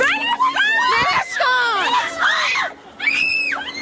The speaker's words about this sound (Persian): صدای فریاد و جیغ زنی که تنها اتهامش رعایت نکردن حجابی است که آن را اجباری می‌داند.